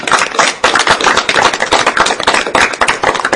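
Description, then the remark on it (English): An audience applauds four authors, a dense, loud wash of overlapping claps that holds at an even level for a few seconds with no voices over it. “But for now, can I ask you to join me in showing my appreciation”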